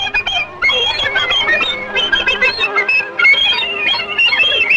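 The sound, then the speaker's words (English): A rapid run of high, squealing oinks from a row of piglets nursing on their mother as Mickey pulls their tails one by one, at shifting pitches like a little tune, loud and continuous with no talking. “As he pulls their tails one by one, they oink out a medley.”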